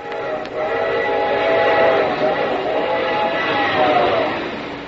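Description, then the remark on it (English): A train roars past on the rails, a loud, steady rumble with clattering and a tonal whistle-like whine rising and falling, sustained for several seconds with no talking. “And just think, someday, men will build a railroad with shiny rails and trains will go thundering by.”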